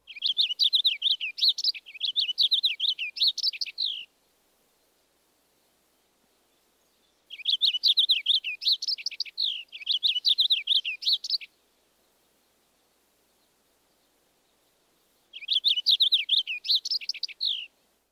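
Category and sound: bird, purple finch song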